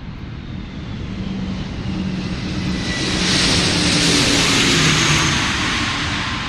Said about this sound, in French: Imaginaire, un avion qui décolle, c'est développer en soi-même cette progressive application de toutes les forces à l'élan, de plus en plus vite, en éprouvant l'impression qu'on libère son énergie sans réserve et en risquant le tout pour le tout,